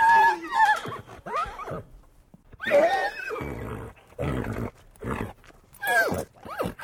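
A stallion called Thunder, recorded for the film The Horse Whisperer, neighs loudly, letting out a string of shrill, quavering whinnies and shorter snorting calls in quick succession, with no talking.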